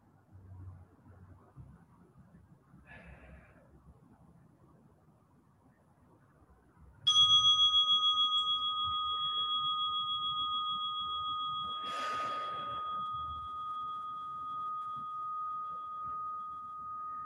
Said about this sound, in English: So that's our bell, just to let the practice wind down.